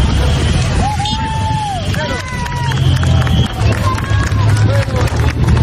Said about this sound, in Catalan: Un privilegi per als seus habitants que van poder gaudir in situ del tret de sortida d'una de les curses més prestigioses del ciclisme internacional. Escoltem l'ambient que es respirava durant la sortida dels corredors.